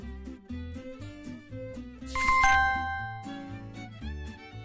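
Tower bells ring out with a bright, ringing strike midway that lingers and fades, over a steady bed of gentle background music.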